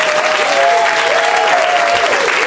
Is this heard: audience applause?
yes